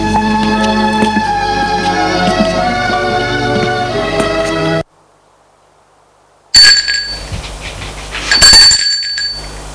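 A doorbell at a front door rings at 11 in the morning with bright, metallic, high-pitched tones, sounding twice after a brief silence that follows a stretch of steady, layered tones. No one speaks.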